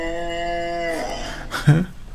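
A single drawn-out cow moo, loud, holding a steady droning tone before sliding down and breaking off into a short, gruff grunt at the end. No one speaks.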